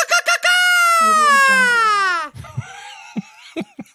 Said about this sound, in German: Ich meine, das war ein mexikanischer Klang. Das war der mexikanische Mariachi-Schrei.